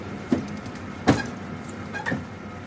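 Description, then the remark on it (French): A bus driver's electric window being opened: three sharp mechanical clunks about a second apart over a steady, low engine hum, with no voices. “Moi personnellement, j'aime bien ouvrir la vitre pour avoir ce contact avec, avec les gens.”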